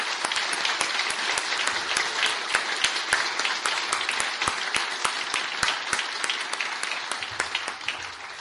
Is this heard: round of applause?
yes